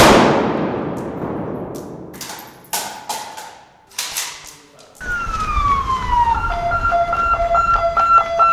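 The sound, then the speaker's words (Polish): Ambulance and police sirens sound at a scene outside a building on Składowa Street in Łódź, Poland: a falling wail that settles into a steady alternating two-tone call, following a few sharp knocks and thuds at the start. No one speaks. “Duże zamieszanie, sporo policji, karetki pogotowia pod budynkiem przy Składowej 43.”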